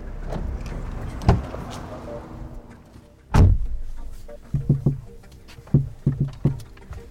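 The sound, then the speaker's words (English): A car's back door clicks open, then shuts with a loud thud, followed by a few light, quick taps on the dashboard inside the car against a low background hum. “That's the back door.”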